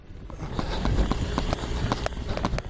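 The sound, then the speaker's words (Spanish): Quick, evenly spaced footfalls of someone running backwards, each step a sharp tap over a steady low rumble of background noise, moderately loud. “Ahí está Cristian, corriendo hacia atrás”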